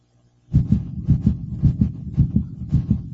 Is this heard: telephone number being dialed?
no